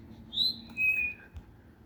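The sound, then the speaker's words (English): A bird chirps a few clear, high-pitched whistled notes outdoors from just above the speaker as he walks down a road, with a soft background hum of wind or traffic and no talking. “You should be able to hear that bird.”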